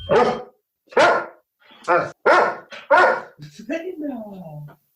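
A dog barks five times, loud sharp barks in an uneven rhythm, then trails off into a drawn-out, wavering whine.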